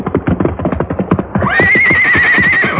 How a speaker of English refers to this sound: The river tore at them, but finally Silver's hoofs found solid footing, and he clattered to dry ground.